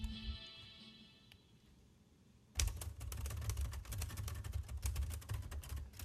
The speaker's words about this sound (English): Hearing that manual typewriter means it's time for the Dick Van Dyke Show, and we're about ready to enter the office of the scriptwriters for the Alan Brady Show,